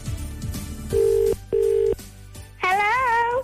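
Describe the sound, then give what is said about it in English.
Two steady, evenly spaced electronic beeps from a telephone keypad as a number is punched in, clear, followed by a brighter warbling tone; no one speaks. “I'll punch in the number.”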